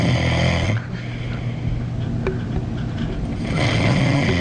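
A man snores loudly and close up, a deep rattling rumble that swells, eases briefly, then surges again into another heavy, throaty snore. No one speaks.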